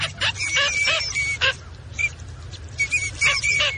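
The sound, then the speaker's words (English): A flock of small ducks calling together in a dense, overlapping chorus of high, nasal notes, steady throughout with brief bursts of louder calls over a low outdoor rumble. “In spring, millions of small ducks move into shallow wetlands of North America.”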